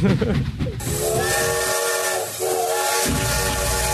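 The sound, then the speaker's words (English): A loud steam train whistle sound effect blows in a long sustained tone with layered harmonics over a rushing hiss of steam, dominant, with no talking. “The Devin hype train is leaving the station.”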